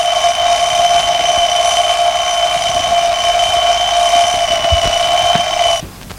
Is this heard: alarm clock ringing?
yes